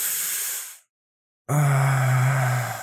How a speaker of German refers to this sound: Es tut mir leid, ich muss halt so oft schnaufen.